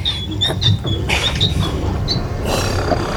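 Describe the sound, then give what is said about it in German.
A heavy stone wall, a hidden secret door, grinds and scrapes aside with a steady low rumble, punctuated by high, thin creaks and squeals over about three seconds, with no voices. “Die Wand gleitet zur Seite. Eine Geheimtür.”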